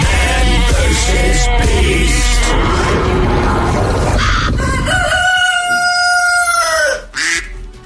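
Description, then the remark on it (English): A loud duck sound effect: noisy, raspy squawking builds for several seconds, then a long, drawn-out honking call rings out clearly before cutting off abruptly. No one speaks. “Gotta wait for the duck.”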